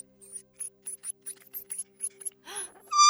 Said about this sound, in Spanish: ese sonido era el gimoteo de un gnomo. Para mí sí.